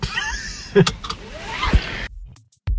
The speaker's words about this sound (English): Right. Here's where I get out of the car and find the batteries.